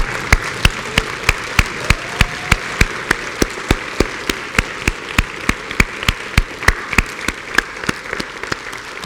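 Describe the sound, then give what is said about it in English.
A church audience gives a morning round of applause for the fathers standing in the room: a steady wash of many hands clapping, with sharp, evenly spaced claps standing out in a regular beat for about nine seconds, and no voices. “And let's give our dads just a round of applause this morning.”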